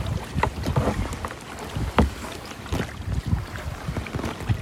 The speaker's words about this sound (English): All right, we're on the water. Day three, kayaking on the fjords. Here we go.